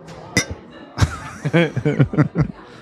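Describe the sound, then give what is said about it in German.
Glasses clink together in a toast, two bright, sharp taps, followed by a burst of soft chuckling laughter from people. “Prost. Prost, zurück.”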